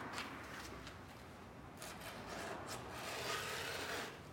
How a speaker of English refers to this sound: With the deck pressed to his lap, Ray files the tape off the edges.